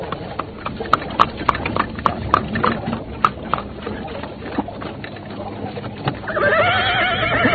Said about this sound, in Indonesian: mendadak dari ujung jalan muncul sebuah kereta yang dikawal 10 orang penunggang kuda.